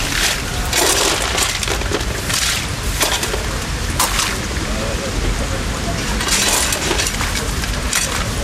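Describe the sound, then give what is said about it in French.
Busy fish market ambience at the port of Marseille in April 2024: a steady wash of crowd noise with indistinct voices of fishmongers chatting as they cut their fish, punctuated by sharp clattering knocks and occasional splashes throughout. “Vous voyez là, je me vois et port de Marseille, les marchands de poissons qui discutent, hein, qui sont en train de couper leurs poissons”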